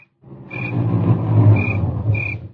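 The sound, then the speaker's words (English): A car engine rumbles as the vehicle pulls into the driveway of a house on a ranch and slows, with a few short high brake squeals cutting through near the end. No voices. “There was another car in the driveway when we pulled up.”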